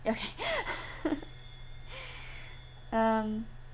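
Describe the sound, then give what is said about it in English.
A telephone rings once near the end, a short steady electronic tone. It follows a few soft vocal sounds and quiet room noise. “Do you want to answer the phone or?”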